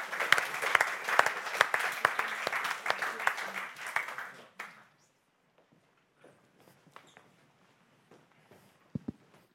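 An audience at a church service applauds in welcome with dense, steady clapping for about four and a half seconds, then it stops abruptly, leaving a few scattered faint claps and small sounds.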